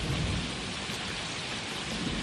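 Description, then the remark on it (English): Steady, dense rainfall pours down with a deep rumble of thunder rolling underneath, loud and continuous throughout, with no voices present. “The rain is falling already.”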